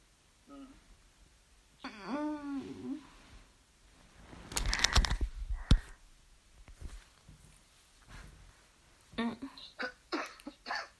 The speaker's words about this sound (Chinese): 咳嗽什么？ 咳嗽不舒服。